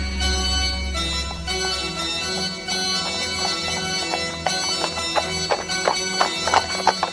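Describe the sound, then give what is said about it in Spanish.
Horse hooves clip-clop in a steady rhythm, becoming sharper and more distinct in the second half, over a sustained musical background with a low rumble at the start. “Una semana después, el caballo volvió de las montañas, trayendo consigo una manada de caballos salvajes.”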